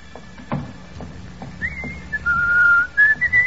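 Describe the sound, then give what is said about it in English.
A person whistles a lively, wavering tune loudly in a hallway right outside an office, beginning partway in after a few soft knocks or footsteps over low background rumble, with no talking. “Do you think we should whistle so loudly, …?”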